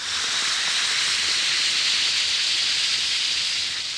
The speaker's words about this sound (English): When you have a headache or aching muscles, that fizz can be the most reassuring sound in the world. Listen again. Yes, that's the mighty welcome sound of a glass of sparkling Alka-Seltzer, about to bring somebody prompt and effective relief.